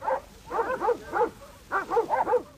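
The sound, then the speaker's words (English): Sheepdogs bark during a sheep muster in New Zealand, with 40 dogs moving 4,000 ewes from the backcountry down to the coast: quick, overlapping bursts, a busy chorus of yaps and woofs with a short pause in the middle, outdoors, with no voices. “He accompanied the muster that year when 4,000 ewes were moved down from the backcountry to Kekaringu on the coast by seven shepherds, a pack train and 40 dogs.”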